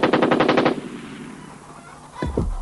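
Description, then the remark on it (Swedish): A rapid burst of about eight loud gunshots, like machine-gun fire, fades into a lingering rumble, followed near the end by two short, honk-like tonal blasts. “Såg du, de sköt sten.”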